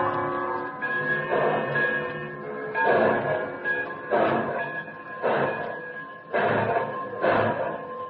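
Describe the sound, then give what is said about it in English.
A train bound for New York picks up momentum and pulls out of a station, its rumble rising and falling in steady rhythmic surges about once a second, with a sustained tonal whine running underneath. No one speaks. “The last thing I see as the train picks up momentum and speeds out of the station is Comrade Kova standing on the platform and smiling goodbye.”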